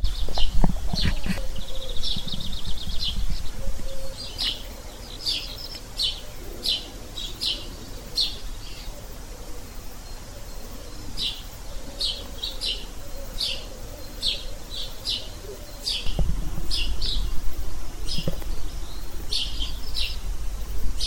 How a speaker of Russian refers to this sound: Это кукуют горлинки. Их еще называют египетским голубем. С них начинается утро. Горлинки тут заменяют деревенских петухов. Перекликаются со всех концов.